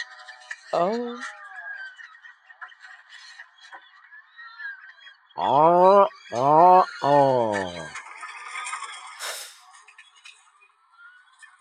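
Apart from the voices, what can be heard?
bird vocalizing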